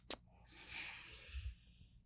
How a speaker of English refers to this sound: I want to give you a forehead smooch. You ready? 3, 2, 1.